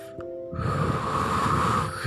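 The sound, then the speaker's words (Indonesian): A single long, deep breath drawn in through the nose during a guided gratitude breathing exercise, steady, rising in airy intensity for about a second and a half after a brief pause. “Terus lakukan tarik nafas, geser hatinya ke rasa syukur.”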